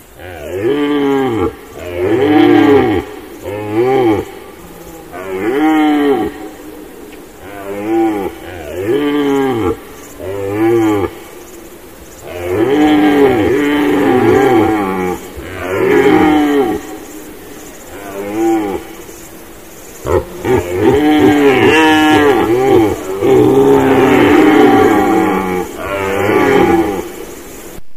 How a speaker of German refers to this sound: Hört die Hirsche.